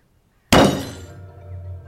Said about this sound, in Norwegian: Mens jeg sitter og jobber, så hører jeg brått et stort dunk, en ordentlig banking, et stort bank fra akkurat som noen som tar knokene og slår ned i bordplata. Og det kommer fra bordet.